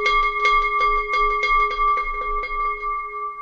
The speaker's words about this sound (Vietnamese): Đó, sau khi rung chuông rồi, nhìn thấy mọi người, gia đình với các Phật tử mà ngồi đâu ở đấy hết rồi, trang nghiêm rồi, thì bắt đầu chúng ta bắt đầu hồi chuông.